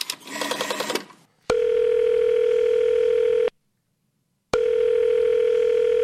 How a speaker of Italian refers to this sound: Componi il numero di assistenza, quello del condizionatore.